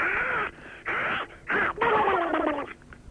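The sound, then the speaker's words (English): A voice imitates Donald Duck sneezing as an entry in a show's sound-impression competition: three short, raspy, nasal squawks, then a longer warbling one that trails off. Loud and alone. “Donald Duck sneezing.”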